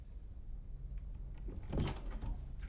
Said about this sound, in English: He looks up at the sound of an opening door, then looks back down again.